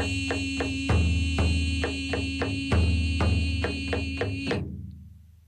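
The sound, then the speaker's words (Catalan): A square frame drum (pandero quadrat), a very rudimentary instrument, is struck in a steady, quick rhythm, with heavier accented beats every couple of seconds over a sustained, buzzing tonal layer. The playing stops abruptly and the sound fades out. “Sí, és un pandero quadrat. És un instrument molt rudimentari, però...”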